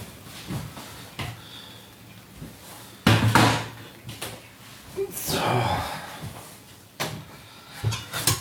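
Boiled potatoes being drained from a pot at the sink: a loud metallic clatter of pot and lid, then a rushing pour of water lasting a second or two, followed by a few more knocks and bumps.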